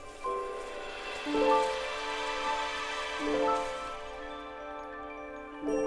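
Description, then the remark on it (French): A shimmering, magical sprinkle of twinkling tones, like a fine rain of multicoloured glitter dusting a tree, with bright sustained chimes swelling in gentle waves over a soft hissing wash. “Et une pluie fine de paillettes multicolores saupoudre l'arbre.”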